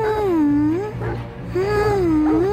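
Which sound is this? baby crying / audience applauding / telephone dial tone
baby crying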